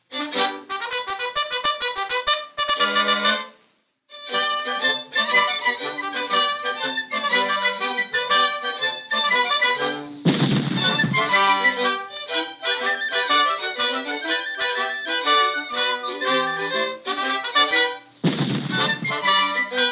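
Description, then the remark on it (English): A lively orchestral tune, an imitation of the early Yerba Buena orchestra playing Pop Goes the Weasel, plays steadily. It is punctuated twice by deep, booming blasts from 6-pound cannons used as the bass, landing on the bass beats, loud against the music. “what piece it would be that required 2 6-pound cannons for the bass”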